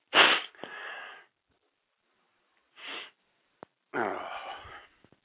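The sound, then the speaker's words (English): Three wet sniffles from a runny nose, the first and last drawn out into longer snorting inhales, with short silent gaps between them and no talking. “I just noticed my nose just started running big time. So, got the snot flowing too.”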